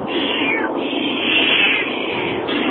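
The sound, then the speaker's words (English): An angry female cat yowls in one long, continuous, drawn-out meow, loud, from the backseat of a moving car on the way back from a hurricane evacuation, with a low rumbling road noise in the background. “Anyway, it's a very angry kitty in the backseat who would like nothing more than to be sleeping in her own little kitty condo that she has.”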